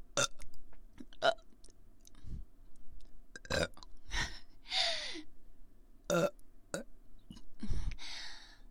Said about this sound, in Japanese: 炭酸水を飲んだ時に出るゲップが出ちゃいました